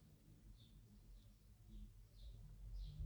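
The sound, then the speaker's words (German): Faint, distant birdsong: about five short high chirps repeating at a steady pace over a soft, low background rumble, with no voices. “Du hörst Vögel singen in der Ferne.”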